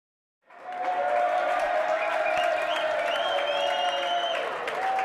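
A crowd bursts into sustained applause and cheering in a large indoor hall, the clapping and whoops rising quickly from silence and staying loud and dense, with some voices calling out over it.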